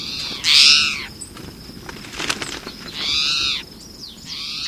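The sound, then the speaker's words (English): A towhee calls three times, each a loud, buzzy, harmonic note lasting about half a second to a second, against a faint background hiss with no one talking. “In the meantime, juncos and birds like this towhee will scuffle and feed in the leaf litter.”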